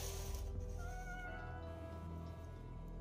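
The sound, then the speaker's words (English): A long, plaintive cat meow heard in home video footage, drawn out over a few seconds, its pitch gliding slightly, sounding faint above a steady low background hum and hiss. “It starts with what sounds like the plaintive meow of a cat.”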